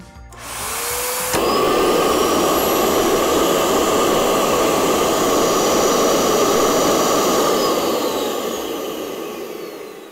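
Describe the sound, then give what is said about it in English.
A dental vacuum forming (thermoforming) machine, with its top part heated, being used to make a chocolate mold: the vacuum motor spins up with a short rising whine, then kicks into a loud, steady roaring hiss with a high whine on top, sustained and easing off at the end. “It's gonna get pretty loud once I turn it on the vacuum.”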